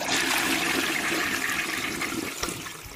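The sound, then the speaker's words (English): A toilet flushes with a loud rush of swirling water that holds steady for a few seconds before starting to taper off. No one speaks. “Although, that being said, though, I want to flush Manganelli in the toilet, even though he's not a nerd.”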